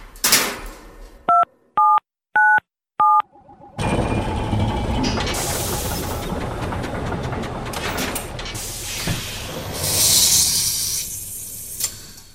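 Four short, evenly spaced keypad beeps, each a steady two-note electronic tone, sound in quick succession as the date 13 August 1898 is entered, before a loud, sustained rushing noise takes over.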